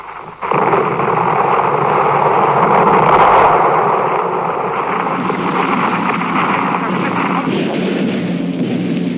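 Heavy naval gunfire from the battleship Schleswig-Holstein shelling the Westerplatte in 1939 builds into a loud, continuous roaring barrage that runs for several seconds, with booms blurring into a steady rumble and a windy, sea-like wash. No one speaks.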